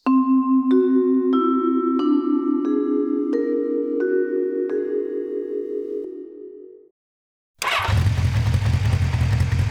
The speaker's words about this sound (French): Il y avait la lettre qui s'est envoyée du là où il y avait les animaux et puis elle est partie sur une moto. Et sur la moto, à fond la caisse.